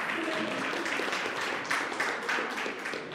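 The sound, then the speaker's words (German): A crowd applauds steadily for about three seconds, many hands clapping in a dense, continuous patter with no voices standing out. “Hey, sehr gut, Applaus.”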